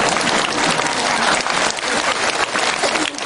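A crowd applauds to call a speaker down from the stage, steadily and loudly, a dense wash of many hands clapping that holds evenly for the full few seconds with no voices standing out.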